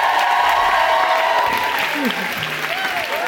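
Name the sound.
audience applause and cheering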